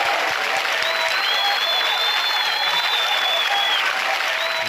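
Sustained applause from a crowd, a dense steady wash of clapping that stays loud for the whole stretch, with a few high whistles cutting through and no one speaking.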